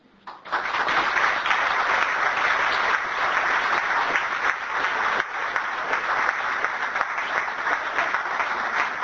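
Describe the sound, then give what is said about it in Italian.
Sustained audience applause at an association's meeting, a dense, steady crackle of many hands clapping that starts abruptly and holds at a fairly loud, even level for about nine seconds, with no voices standing out. “Beh, per meritare un altro applauso, io penso.”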